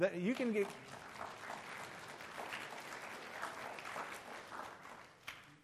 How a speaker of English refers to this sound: I can't tell you how excited it is for me to say, to tell my parents later that y'all clap for them in church, because just be one of those stories I get to relate.